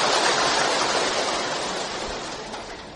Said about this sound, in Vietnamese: Dù cho nắng hay mưa, quý vị vẫn thường xuyên đến nơi đạo tràng tu học, và xin tán thán quý vị bằng một tràng pháo tay thật lớn.